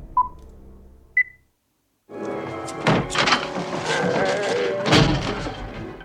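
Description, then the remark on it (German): From a zombie thriller short film: two short electronic beeps, a brief silence, then a burst of hurried, clattering movement with heavy thumps as a woman runs through a door, ending in a loud bang as she slams it shut. “Sie ist gerade durch die Tür gerannt, hat die zugeknallt.”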